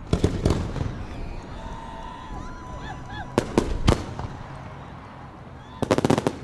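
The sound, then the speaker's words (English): Fireworks crack and boom in scattered bursts on the evening of the 4th of July in a large open space near downtown Colorado Springs, with sharp clusters of rapid pops near the start, middle and end, over a steady murmur of a crowd of thousands and faint whistling tones. “if you show up hoping for a few fireworks and a big celebration”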